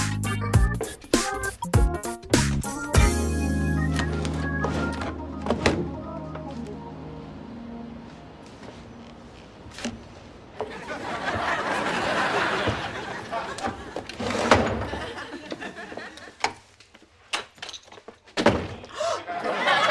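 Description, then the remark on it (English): An unlocked door is worked open and then pushed shut, with several sharp knocking thunks and a closing slam, over a low murmur of background noise. “Oh, she did not lock the door.”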